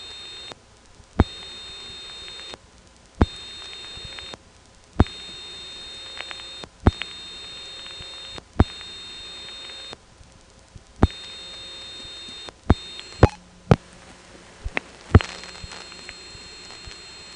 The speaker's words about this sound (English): You don't hear this, but it does MF my telephone number. This N1 carrier trunk is typical in the way that it rings along with the sounds, but it lacks the usual howls in the 5 to 700 hertz range that you hear most of the time on N1s, but not always.